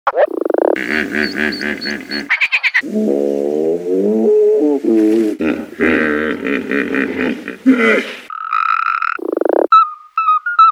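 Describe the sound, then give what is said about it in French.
A human voice imitates a made-up toad-hippo creature: a loud run of deep croaking bellows and honks, broken by short grunting bursts and higher squawks, continuing for about ten seconds. “Un crapopotame.”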